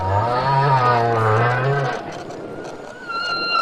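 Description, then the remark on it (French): Male whales off Sainte-Marie sing through a hydrophone that a group of tourists listens to: a long, low moaning call with wavering harmonics lasts about two seconds, then fainter, higher tonal whistles follow over a hissy background. “Grâce à un hydrophone, le groupe écoute les mâles chanter.”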